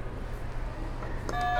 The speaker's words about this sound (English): Can you hit another buzzer?